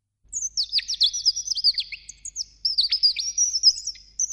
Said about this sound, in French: Mes chers amis, cet oiseau vient de vous dire que je vais vous chanter une chanson